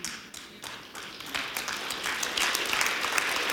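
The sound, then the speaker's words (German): An audience claps steadily, a dense patter of many hands that swells slightly louder toward the end, with no voices standing out. “Ich weiß, es ist ein bisschen herausfordernd zu klatschen und zu schreiben, das ist das nächste Level.”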